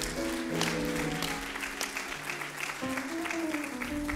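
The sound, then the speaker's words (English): An audience breaks into steady applause for the students, a dense wash of many hands clapping that holds evenly for about four seconds, with a low sustained hum of tones running underneath. “Let's give our students, our young people, a wonderful round of applause.”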